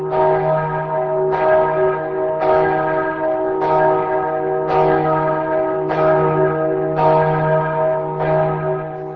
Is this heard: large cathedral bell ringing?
yes